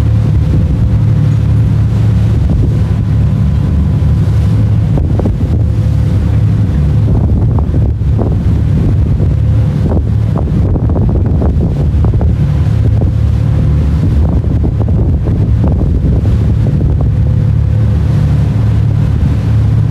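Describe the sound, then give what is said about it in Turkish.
Steady sea sound with water washing and churning, mixed with constant low rumbling and wind buffeting, heard from a moving ferry; no one speaks. “Siz bir süre deniz sesiyle baş başa bırakmak istiyorum.”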